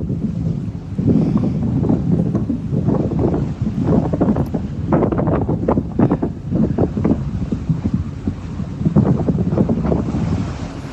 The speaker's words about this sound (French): Et elle nous a aussi fait l'enregistrement suivant qui est le son du vent dans les voiles du bateau.